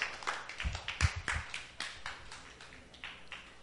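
A scattered round of applause from a small crowd for the fathers called up to the stage: many overlapping claps at an uneven rhythm, fairly soft, strongest in the first second and a half, then thinning out with no talking.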